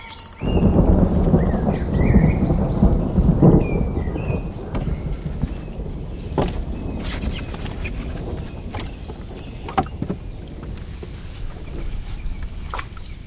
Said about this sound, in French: Généralement, les orages, ça suit les vallées, les cours d'eau. Alors nous, nous sommes entre deux cours d'eau, là, passe chaque côté, et nous, on n'a rien.